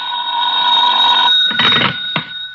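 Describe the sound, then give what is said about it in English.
A loud telephone bell rings at nearly 11 o'clock at night with a sustained metallic tone, then breaks into a couple of harsh clattering bursts before stopping. No voices are heard. “I wouldn't hear from him for days, and then all of a sudden he'd call up at the craziest times.”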